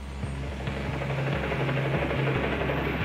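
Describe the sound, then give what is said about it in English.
A helicopter's rotor thumps in a steady, rapid rhythm over a low engine drone, loud, with no voices. The helicopter hovers just above the roof of a prison's solitary confinement wing around 3 p.m., and the beat is heard inside the jail cells. “Around 3 p.m, the beat of helicopter blades creates this cacophony inside the jail cells.”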